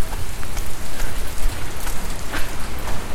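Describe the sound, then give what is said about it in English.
A wet dog shakes off water, sending a steady, hissing patter of spray and droplets that sounds like rain, with a few sharper splashes and no voices. “Good shake there, little buddy.”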